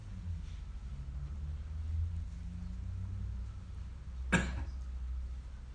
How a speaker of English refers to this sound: He's just coughing and resisting to give the answer.